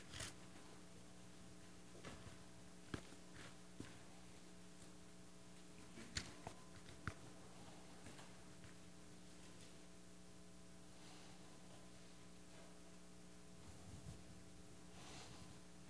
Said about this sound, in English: Still a few more pages turning. I had a bookmark. That's how I found it.